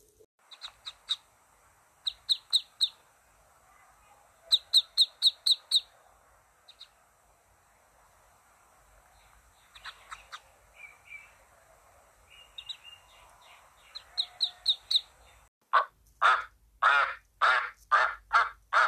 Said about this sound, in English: Well, at length, one shell cracked, and then another. And from each egg came a living creature that lifted its head and cried, "Peep, peep."